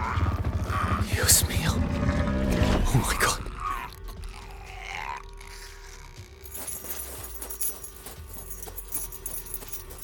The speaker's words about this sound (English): Keys. Here. Which one? Blue tip.